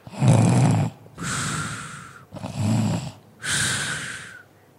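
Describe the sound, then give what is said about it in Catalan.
A voice imitates a wolf snoring loudly as it sleeps in bed: two full breaths, each a rumbling, throaty inhale followed by a long, breathy, whistling exhale, in a slow steady rhythm with no talking. “Roncava tan fort que un caçador que passava per allà a la vora va sentir els roncs i es va estranyar que la dolça àvia que vivia en aquella caseta pogués fer aquell soroll.”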